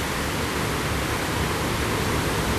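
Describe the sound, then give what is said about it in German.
A dense, steady rushing roar beneath a bridge in a city, loud and enveloping, holding constant from start to finish with no voices or other distinct sounds breaking through. “Auch wieder, wir sind mitten in dieser Klangkugel von dem Rauschen, dank dieser Brücke.”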